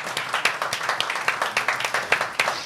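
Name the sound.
group clapping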